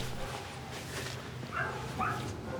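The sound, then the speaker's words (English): A scruffy dog whimpers and lets out a couple of short, high yelping barks about a second apart, over a steady low background rumble. “the scruffy dog make eye contact.”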